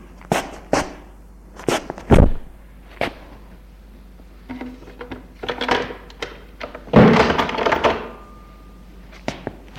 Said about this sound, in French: Il a entendu derrière lui la porte se refermer.